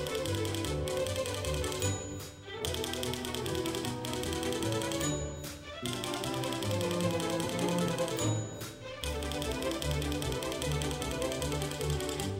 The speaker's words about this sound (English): He wrote another piece imitating one that's just about disappeared these days. Before there were computers with printers, there was the typewriter.